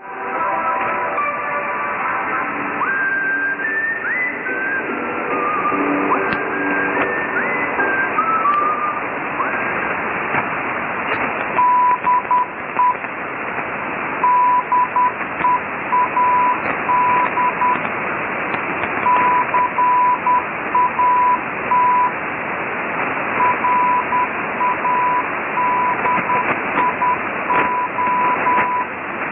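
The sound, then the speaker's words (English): Hissy, static-laden shortwave radio reception of the Dead Cat Radio sign-off on 6925 upper sideband at 0600 UTC on 25 April: faint music fades out, then a steady high Morse code tone keys out the station ID in short and long bursts through the crackling noise. “This is the sign-off of Dead Cat Radio with the ID in Morse.”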